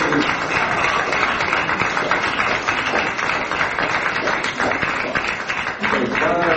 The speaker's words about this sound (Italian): L'applauso che hai ricevuto, qua c'era un'area tra lo scetticismo e lo stato di shock, almeno per quanto mi riguarda